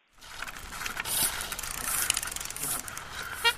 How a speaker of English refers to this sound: Smooth sound of precision mechanics, the rhythmic clicking of finely tuned bicycles, chains flipping from gear to gear, the occasional handlebar bell